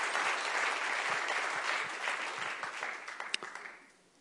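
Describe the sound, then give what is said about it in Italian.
A church audience claps in praise of the Lord in a dense, steady burst of applause, many hands at once, holding loud and even before tapering slightly toward the end, with a sharper clap standing out near the finish. “Facciamo un applauso al Signore, grazie di cuore.”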